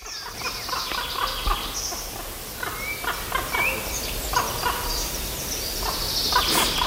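A common raven flying low over the treetops calls several times, its short, cheerful croaking notes ringing out over a busy outdoor background of other bird chatter, fairly clear and moderately loud.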